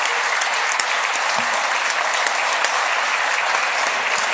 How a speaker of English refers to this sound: But just wanted to make you all aware, it's been 100 years of WNAX, so if we'd give them a round of applause, I'd appreciate that.